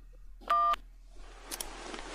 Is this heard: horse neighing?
no